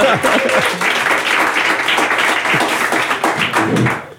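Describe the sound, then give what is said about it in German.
A live audience at a live recording claps steadily to welcome a guest, a dense wash of many hands with sharp, crackling hits that stays loud and even for about four seconds before trailing off. A few voices murmur underneath. “Jetzt darf man auch gerne klatschen, weil das ist ja ein Live-Podcast, genau.”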